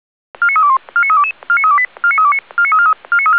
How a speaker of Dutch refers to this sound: Groot alarm voor het bosbestrijdingspeloton Binnensticht. We gaan naar de bergweg in Amerongen.